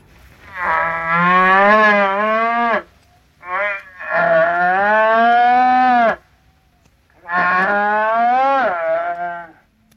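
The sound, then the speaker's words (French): A cow moos loudly while giving birth, three long, drawn-out bellows with a brief grunt between the first two, strained and wavering in pitch, with no one speaking. “Et je vous fais entendre le bruit de la vache pendant la naissance, ne durant pas plus longtemps que 15 secondes.”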